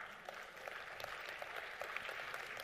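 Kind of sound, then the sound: crowd, audience clapping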